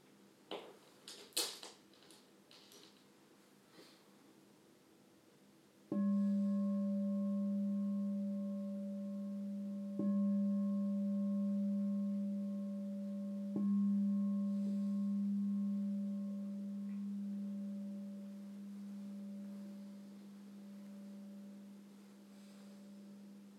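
A meditation bell is struck three times at the start of a chakra meditation, each strike renewing a deep, steady humming tone with bright overtones that rings on and slowly fades. A few soft clicks and rustles come before the first strike.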